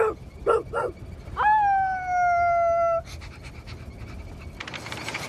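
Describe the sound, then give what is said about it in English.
A person imitates a dog, letting out three quick, loud barks and then a long, steady howl that holds for over a second before cutting off, leaving faint background noise. “You're like some kind of crazy dog.”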